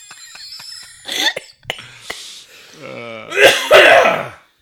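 human body sound, coughing

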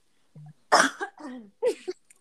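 human body sound, cough

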